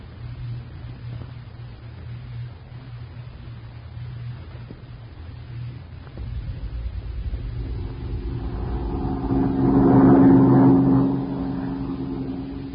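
An airplane engine drones with a steady low hum, then swells into a louder, rougher roar with a tonal whine near the end before easing off slightly, as the airplane flies blindly through a thick fog. No one speaks.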